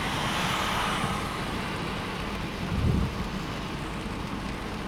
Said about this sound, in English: This is sometime in May in 1989. Driving a car to California. Somewhere between Knoxville and Nashville, Tennessee.